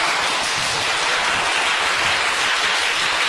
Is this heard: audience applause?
yes